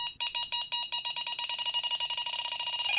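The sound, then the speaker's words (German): An electronic bite alarm for carp fishing beeps rapidly and insistently, a high-pitched tone pulsing faster and faster until the beeps nearly run together, with no voices. “Das ist das Geräusch, bei dem sich der Puls eines Karpfenanglers beschleunigt, hektisches Rennen, Durcheinanderrufen beginnt und die Spannung von Minute zu Minute steigt, bis einem der erste Blick auf den Fisch gewährt wird.”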